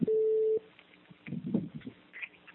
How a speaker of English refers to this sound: Something's beeping in the background. I'm not sure what that is. Anyone else hear it? Yes, I hear it. Okay, someone is making a beeping noise.